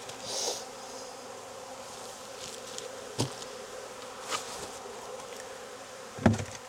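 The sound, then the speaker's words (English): A steady, low droning hum of many honeybees buzzing together in an open hive, with a few sharp knocks and clacks of wood cutting through at intervals as hive boards are handled, and no voices. “Drones can get out through that little hole on these boards.”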